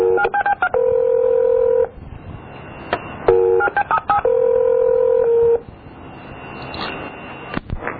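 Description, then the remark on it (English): Telephone keypad tones sound as a phone number is dialed to call back, in two loud bursts, each a quick run of short beeps ending in a longer held tone, with a brief pause between them and no talking. “I was given a number to call back.”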